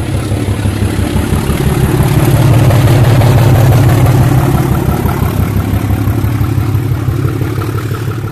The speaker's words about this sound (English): But first, we have a feature on a diesel locomotive which entered service when steam was still a major mover of British trains.